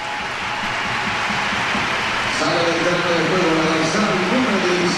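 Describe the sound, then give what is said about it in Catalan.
A football stadium crowd at Sant Moix keeps up a steady, dense roar of many voices during a substitution of player Lucía Corrales, and partway through sustained cheers and chant-like tones of an ovation rise above the wash of noise. “I volen sentir l'ambient de Sant Moix.”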